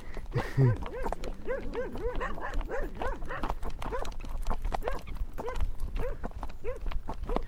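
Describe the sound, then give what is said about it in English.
Steady clip-clop of a ridden horse's hooves on a hard surface keeps a brisk rhythm while dogs bark repeatedly, their yaps overlapping the hoofbeats throughout. “You always want to race these dogs as well.”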